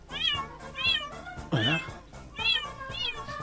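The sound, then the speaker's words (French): A very nervous cat meows plaintively over and over, a string of short, whiny, rising-and-falling cries with one louder, drawn-out wail in the middle, fairly loud. “Ça ressemble plus à des plaintes. J'ai l'impression, ouais. Très nerveux chat.”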